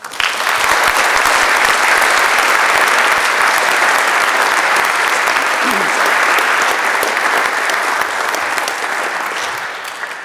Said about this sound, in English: I think they all did a great job, and I would like you to thank them too by applauding to them.